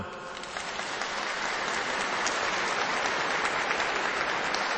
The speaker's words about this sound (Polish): Teraz i zawsze także i Ciebie pozdrawiamy gorącymi oklaskami.